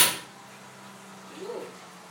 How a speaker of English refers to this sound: Just going to open the oven door.